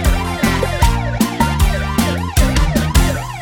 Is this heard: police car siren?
yes